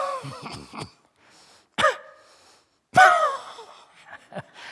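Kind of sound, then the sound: human body sound, repeated coughing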